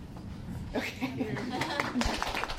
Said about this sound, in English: A group of high school students and their parents politely clap. They're visiting NC State to get a sense of what the College of Agriculture and Life Sciences is like.